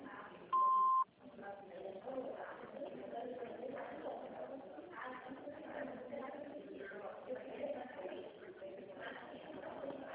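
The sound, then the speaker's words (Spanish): A single loud, steady answering-machine beep at a mid pitch sounds for about half a second near the start, then gives way to a continuous murmur of muffled voices. “Por favor, deje su nombre y número de teléfono después del beep.”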